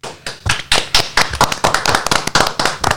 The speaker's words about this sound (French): Comme c'est notre dernière, on va s'applaudir pour cette ultime émotion.